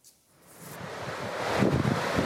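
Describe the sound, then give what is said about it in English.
Lava from Kilauea on the Big Island pours into the Pacific Ocean surf with a broad, steady roar and hiss that swells over a couple of seconds, churning and continuous. Fairly loud, with no voices. “A river of lava pouring into the ocean, where magma cascades into the water, lasers form.”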